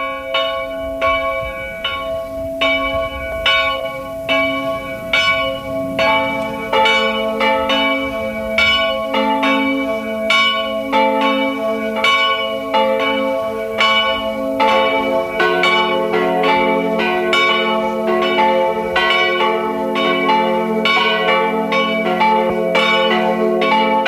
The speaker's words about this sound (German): Es ist 12 Uhr. Sie hören die Glocken der Pfarrkirche von Winden am Neusiedlersee im Burgenland.